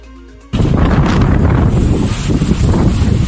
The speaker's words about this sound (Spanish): A esta hora se registran olas de hasta 10 metros en La Coruña, buena parte también del Cantábrico. El viento provoca que solo caminar sea muy difícil por la calle.